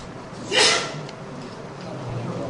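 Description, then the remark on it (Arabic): A person sneezes once, a sudden sharp burst, followed by a quiet, steady hum with no talking. “يرحمكم الله.”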